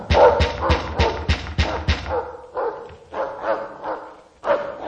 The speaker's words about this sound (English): I shall not be driven back by mere noise in my ears when my eye can behold the promise of God. Wretched hound!